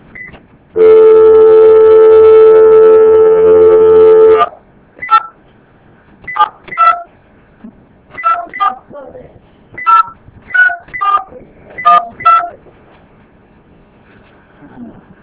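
A steady, buzzy tone holds for a few seconds, then a quick, uneven run of about a dozen short telephone keypad beeps follows, clear with nothing else over them.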